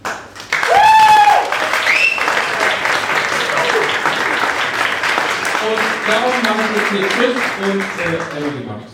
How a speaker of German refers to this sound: Ja, vielen Dank für den herzlichen Applaus und schön, dass ihr alle da seid zu der Verleihung vom Podcast Podcast Preis 2018 hier im Unperfekthaus in Essen.